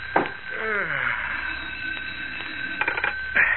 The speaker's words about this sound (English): In Willow Heights, the well-to-do suburb 18 miles from the heart of Metropolis, it is just after 11 o'clock at night. As in his small police station, Sheriff Johnson yawns and reaches for the ringing telephone on his desk.